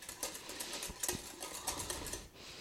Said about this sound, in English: Right, now get your whisk and whisk those together. And yes, it is the same whisk I used for the dry ingredients a minute ago.